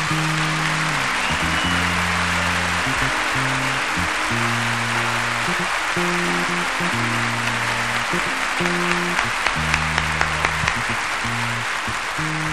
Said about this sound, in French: Avant de finir, je voudrais bien que vous fassiez un grand applaudissement pour la belle orchestre de l'Olympia de Paris, que c'est magnifique, s'il vous plaît.